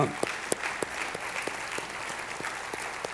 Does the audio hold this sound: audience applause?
yes